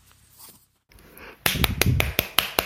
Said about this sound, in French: Ah, j'applaudis.